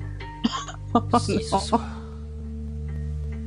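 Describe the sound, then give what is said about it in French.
A person makes a few short, quavering vocal bursts that mimic a goat's bleat, fairly loud, followed by a steady low hum once the voice stops. “Mais pourquoi tu fais ça? Parce que... Ah, c'est une chèvre, hein.”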